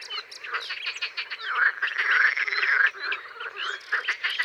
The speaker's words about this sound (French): au bord d'un étang, le 20 mai, à l'aube, et les premiers animaux qu'on entend ici, ce sont des grenouilles rieuses. Leur chant est très sonore, grâce aux sacs vocaux qui se gonflent de chaque côté de leur bouche et qui servent de caisse de résonance.